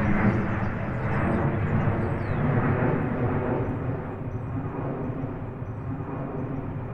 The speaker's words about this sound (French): Mais c'est vrai que quand on est à l'extérieur, pour profiter du jardin, notamment l'été, ben on peut être obligé d'arrêter la conversation, parce que quand il y a un avion qui passe, donc c'est tellement fort en fait.